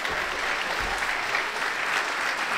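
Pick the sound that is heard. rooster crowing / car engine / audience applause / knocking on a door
audience applause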